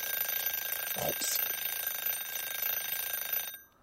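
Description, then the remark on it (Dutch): An alarm clock rings continuously with a dense, rattling metallic buzz at steady loudness for about three and a half seconds, then cuts off abruptly into quiet. “Ja, het is die wekker.”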